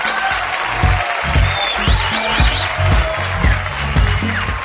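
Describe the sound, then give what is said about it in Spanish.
Steady applause from a crowd congratulating a contest winner, dense clapping with a few whistles over it and regular low thumps pulsing underneath, loud and continuous throughout. “Ya, muchos aplausos.”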